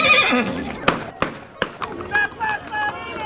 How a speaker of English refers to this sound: In the central square, dozens of men on horseback fire their revolvers into the air, their horses skidding on the slippery stones.